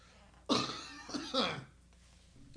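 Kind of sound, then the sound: human body sound, coughing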